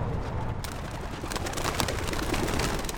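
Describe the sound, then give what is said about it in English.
A flock of homing pigeons is released together from cages set on the ground, their wings flapping in a dense, rapid flurry that starts abruptly and keeps going, fairly loud, with no voices. “The pigeons burst through the open door in a blur of wings.”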